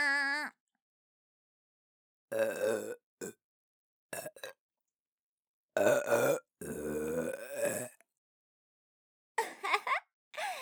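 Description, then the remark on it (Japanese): Several loud burps in irregular bursts, some short and some drawn out and gurgling, separated by brief silences, with no other sounds around them. “ザーメンゲップ、くっせって。”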